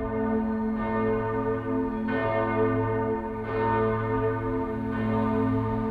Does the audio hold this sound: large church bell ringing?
yes